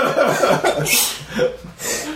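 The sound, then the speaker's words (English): A sudden, sharp sneeze bursts out with a hissy rush of air, followed by a second, softer noisy exhale, with some chuckling and breathy voices around it. “Bless you.”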